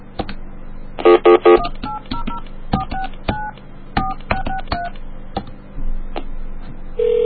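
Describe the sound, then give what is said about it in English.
A quick run of touch-tone keypad beeps as a phone number for Sears is dialed, each tone short and clear over a faint line hum, then a ringing tone begins right at the end. “So, the last phone call I'd like to make...”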